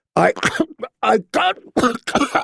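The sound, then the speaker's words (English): A voice imitates a choking coughing fit, with about half a dozen harsh, strained bursts in quick, uneven succession, loud with no other sounds. “Joff took another drink, or tried to, but all the wine came spewing back out when another spate of coughing doubled him over.”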